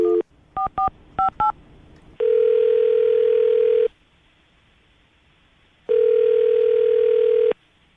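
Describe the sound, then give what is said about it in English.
A quick run of telephone keypad beeps, about five or six touch-tones, as a phone is dialed for a call on the radio show Brook and Jubal in the Morning, followed by two long, steady phone tones separated by a pause. Clear, with no talking. “I'm going to dial the phone right now.”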